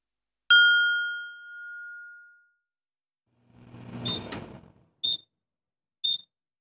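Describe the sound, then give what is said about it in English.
A microwave oven's bright single ding, signalling that dinner is ready, rings out and fades over about two seconds, followed by a brief rattling clatter and then two short, high-pitched beeps. “But now Sam's grandma sometimes uses a microwave to make dinner.”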